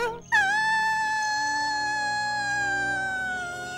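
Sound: fox howling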